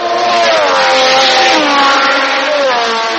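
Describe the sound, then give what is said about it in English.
A loud, high-pitched Formula One race car engine screams continuously, its whining pitch rising and dipping as it revs, with no voices present. “Formula One car racing will debut next year in Vietnam”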